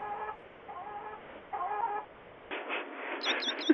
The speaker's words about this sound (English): We don't get live chickens. Because I work at the racist one, we have live chickens in here. And I don't know, like, how to handle this.